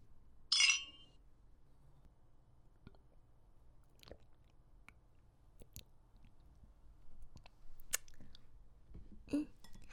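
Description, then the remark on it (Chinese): A sharp, bright clink of glasses of liquor raised in a toast among a few people at a meal near the start, followed by quieter scattered clicks and tableware taps against a low room hum, with no talking. “给你倒了杯酒，咱们几个一起干一杯吧。”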